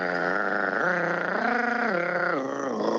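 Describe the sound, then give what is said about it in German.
A continuous, purring churr from a bird calling during its display flight at dusk, unbroken for the whole stretch and steady in loudness, its pitch stepping up and down a few times. No voices. “dann klingt das wirklich eher wie ein Schnurren”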